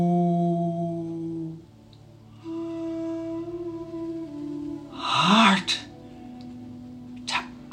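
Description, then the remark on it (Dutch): A soft, steady musical drone plays throughout, and near the end comes a clear, breathy exhale followed by a brief second breath, audible above the sustained tones. “Ademhaling.”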